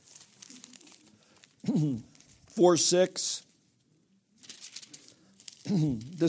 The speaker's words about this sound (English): Man, I'm having a hard time turning pages.